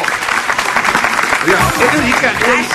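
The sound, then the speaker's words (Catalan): An audience applauds steadily for a few seconds, a dense, even patter of many hands, with excited voices and cheers rising over the clapping. “Escolteu, aplaudiu les tresines, home!”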